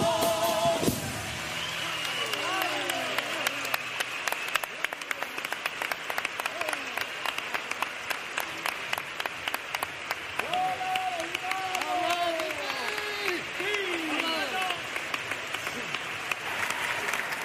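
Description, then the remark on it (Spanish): A theatre audience breaks into sustained, loud applause after a pasodoble tribute to Antonio Martín, dense clapping filling the whole stretch, with scattered shouts and cheering voices rising above it now and then. “Y que el aplauso de este teatro forme en un revuelo.”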